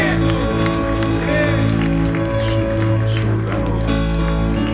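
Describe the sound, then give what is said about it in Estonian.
An audience at a morning church service applauds for Jesus in a dense, steady wash of clapping over a sustained low musical drone, loud and continuous for the whole stretch, with faint voices mixed in. “Anname Jeesusele üks vägev aplaus tema väärikusele täna hommikul.”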